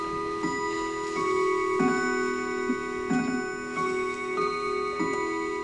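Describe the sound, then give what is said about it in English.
A clock ticks at a slow, even pace in the living room of novelist Ursula Le Guin's home in Northwest Portland, Oregon, as it reaches 11 o'clock; each tick crisp, over a faint steady hum and no voices. “So it was as the clock struck 11 in the living room of her Northwest Portland home.”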